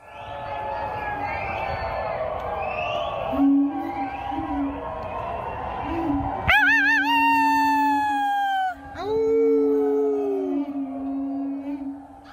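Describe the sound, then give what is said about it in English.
Neighbours in Denver, Colorado, howl together at around 8 p.m. in the evening from balconies and gardens, overlapping wavering wolf-like cries, with one louder sustained howl rising out of the group midway and holding for several seconds. “across Denver and other Front Range communities, people have been howling in support of frontline medical workers.”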